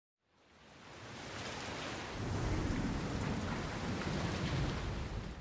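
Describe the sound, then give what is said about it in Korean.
Rain fades in from silence and quickly thickens into a steady, dense hiss of falling drops, growing heavier after a couple of seconds with a low rumbling undertone and no voices, as rain begins to fall during the rainy season. “또비가오기시작하네요 장마때문에어쩔수없어요”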